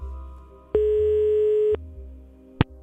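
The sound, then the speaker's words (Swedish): A single telephone ringing tone while placing a call to a singing teacher: one steady, mid-pitched electronic beep lasting about a second, clear. A short click follows, with no one speaking. “Vi tar och ringer en sångpedagog.”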